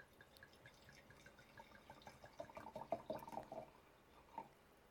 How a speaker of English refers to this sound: Yeah, go ahead. pour us some wine?